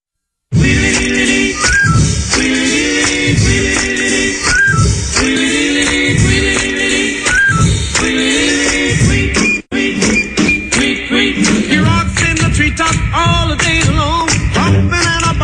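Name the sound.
whistled melody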